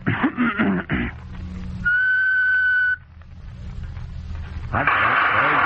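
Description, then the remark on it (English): A person whistles an imitation of a South American wood thrush: one steady, high, clear note held for about a second. Brief vocal sounds come before it, and a rush of noise follows. “First, I will do the South American wood thrush.”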